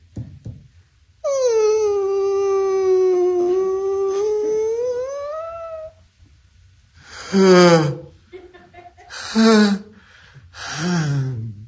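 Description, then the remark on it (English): Among tombstones, someone in a casket that has just opened gives a loud, drawn-out yawn, one long sustained voiced stretch rising slightly in pitch, followed by three shorter, breathy yawning groans close by. “Somewhere close to where you're standing, a casket just opened. And someone's yawning.”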